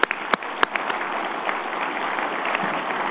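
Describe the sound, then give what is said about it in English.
An audience applauds steadily, a dense wash of many hands clapping at a moderate level, with a few sharper individual claps standing out at the start, applauding the GE board on behalf of investors. “They are vice chairman of GE, and I'd like to give our board a round of applause, please, on behalf of investors.”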